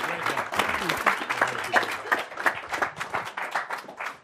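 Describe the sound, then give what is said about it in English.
An audience applauds people being introduced, dense clapping sustained for about four seconds at a steady level, with a few voices murmuring underneath. “So stand up and take some applause if you would.”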